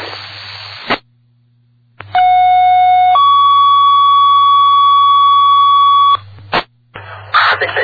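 A loud two-part fire dispatch box alarm tone plays over a radio channel: one steady pitched tone for about a second, then a second tone held for three seconds, bracketed by static bursts, struck for box 442, a stump grinder on fire next to a 600-gallon fuel tank at a stump recycling center.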